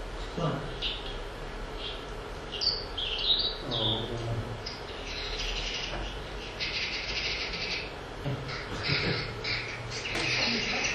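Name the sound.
wild birdsong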